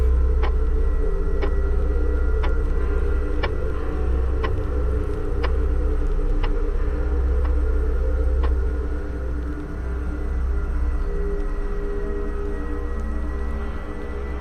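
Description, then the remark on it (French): A clock ticks dully and steadily, about once per second, over a heavy low hum; the ticks fade out partway through while the droning background continues. “Un silence oppressant, brisé seulement par le tic-tac sourd de l'horloge.”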